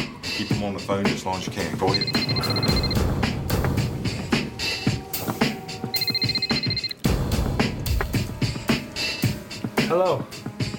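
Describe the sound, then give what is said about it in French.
Paolo's telephone rings in the afternoon in two bursts a few seconds apart, its bright trilling tone clear, set against a dense, busy background of other sounds. “Dans le courant de l'après-midi, le téléphone de Paolo sonna.”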